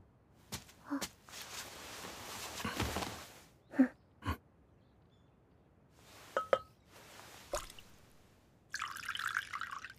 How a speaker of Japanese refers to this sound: 普通に茶を立て始めた。